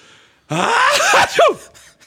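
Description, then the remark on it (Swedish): A single loud, exaggerated sneeze acted out by a person imitating their own sneeze, with a breathy build-up and sliding pitch before a sharp burst, heard alone. “Hur nyser du då? Ja, men jag du skulle härma dig själv.”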